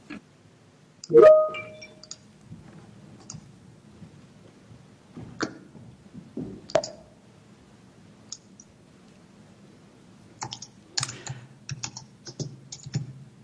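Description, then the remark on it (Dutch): Someone at home types on a keyboard with their microphone on during an online committee meeting, producing scattered sharp clicks with pauses, then a quicker burst of keystrokes near the end, over a low steady hum. “Wellicht dat u thuis het geluid uit kan zetten, want ik hoor iemand typen.”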